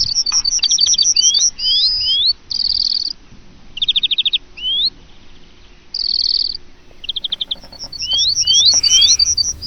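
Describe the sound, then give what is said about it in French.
Several small birds chirp and tweet almost nonstop at a bird feeder in a garden, mixing quick trills, rising whistles and buzzy bursts, clear over a soft low background rumble. “On a installé une mangeoire à oiseaux dans le jardin. On leur donne des graines et une boule tous les jours.”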